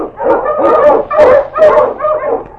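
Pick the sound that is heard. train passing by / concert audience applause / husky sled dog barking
husky sled dog barking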